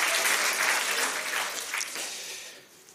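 A burst of audience applause, dense overlapping hand claps forming a steady crackling wash that gradually fades toward the end, with no voices over it.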